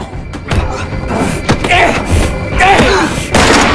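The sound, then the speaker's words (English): Heavy, repeated thuds as Finch kicks and stamps on Dormer land in an irregular rhythm, loud, mixed with grunting vocal sounds and scuffling between the blows. “while Finch, face contorted, kicks and stamps on Dormer repeatedly.”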